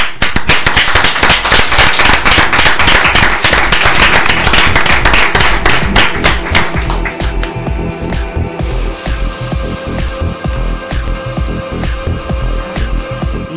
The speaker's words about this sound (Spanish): Os quiero dar las gracias otra vez y otro aplauso.